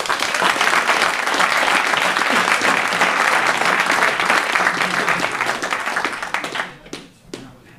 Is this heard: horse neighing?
no